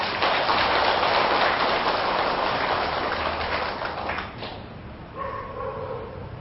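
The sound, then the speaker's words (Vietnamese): A dense, steady burst of clapping from an audience, applauding to commit to practicing non-self, fills the first four seconds, then tapers off quickly as a voice begins speaking. “nỗ lực thực tập quán vô ngã, cái này không phải là tôi, không phải là tự ngã của tôi, không phải là sâu của tôi, để tách ly khỏi cái trạng thái tự ái chấp ngã là đáng làm và nên làm á, thì quý vị hãy cho một tràng vỗ tay để cam kết nó.”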